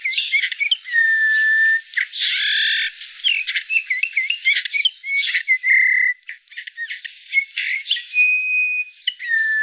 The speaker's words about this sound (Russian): Однако этих веселых красногрудых птиц мы видим все реже. И записать голос снегиря тоже редкость.